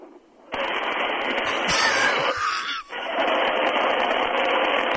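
Air rushes out of a balloon in a loud, steady hiss that starts after a brief silence, breaks off for an instant, then keeps going to the end.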